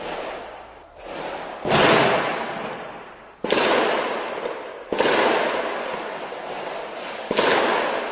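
Several loud, sharp blasts go off one after another, each followed by a long rolling echo: explosions, automatic weapon bursts and isolated gunshots during a pre-dawn police operation against terrorists in the Saint-Denis district, north of Paris, with no voices.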